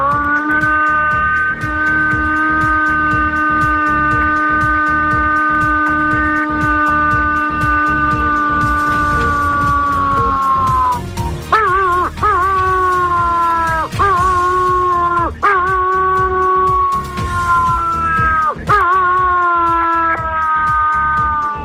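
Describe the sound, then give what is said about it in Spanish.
A person imitates a wolf howl, the kind of call used to call wolves, holding one long, steady, tonal wail for about ten seconds, then breaking into a series of shorter rising and falling howls, loud, with no talking. “Ahora te voy a hacer el aullido.”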